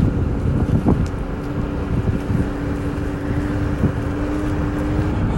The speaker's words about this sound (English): And now we're taking a scooter through the canals to get home. It's, we are living, but I'm on a scooter, so I'm trying not to die.